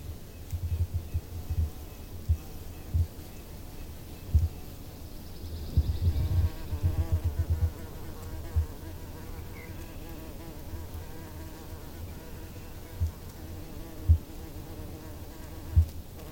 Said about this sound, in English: The sound of the bee makes us flinch and wave our arms, even run. Yet they are so vital to our lives, we should feel relieved at the sound. Relieved that they are still here to help pollinate the plants around us.